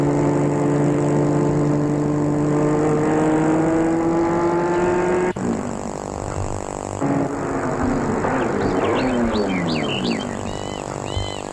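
A car engine hums steadily as the vehicle pulls up at a large old 19th-century house in a big park in the Monts du Lyonnais, then cuts off abruptly; rougher mechanical rumbling and a brief rising whine follow, with no one speaking.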